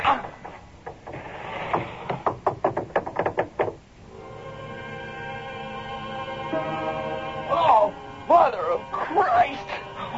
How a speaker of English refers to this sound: open the door. I can't. There's something wedged behind it. Here, let me help you. There. Yeah, it's giving.